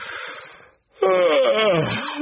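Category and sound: human body sound, loud yawn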